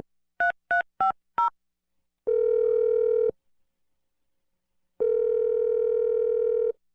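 Four quick touch-tone keypad beeps of telephone dialing, followed by two long, steady buzzing phone tones separated by a pause of silence. Clear and close, with no voices.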